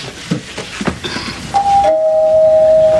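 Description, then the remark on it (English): A two-note doorbell chime rings out, a higher tone followed by a lower one that lingers and fades slowly, after a stretch of muffled rustling and knocks. “would you please answer that door?”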